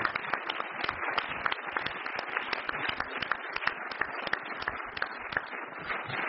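A crowd applauds steadily for several seconds, a dense, even patter of many hands clapping at once with sharper individual claps poking through, holding at a fairly constant loudness with no talking.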